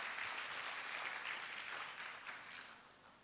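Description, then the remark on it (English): A crowd at a church gathering claps steadily for the pastor, a dense wash of many hands, holding strong before gradually tapering off toward the end. “So can we give him a big round of applause just to show him some love?”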